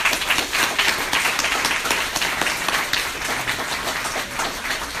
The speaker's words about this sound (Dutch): Dus nogmaals, geef ze nogmaals een daverend applaus.